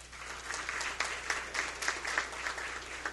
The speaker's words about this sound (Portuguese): Santa Maria de Atibá, e também assim uma salva de palmas. Mais uma vez, agradecer ao coral municipal Encanto e digno de novamente receber os cordiais agradecimentos, aplausos.